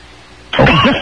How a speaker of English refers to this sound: Cough if you think it will last more than 10 years.